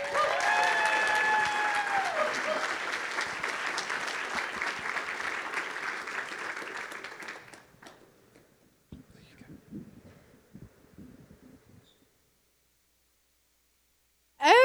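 A crowd claps loudly and steadily for several seconds to welcome and cheer on a speaker, with whoops and cheers rising above, then the applause tapers off into a few scattered sounds and a brief silence.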